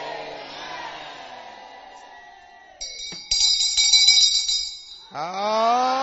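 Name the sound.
hand bell being rung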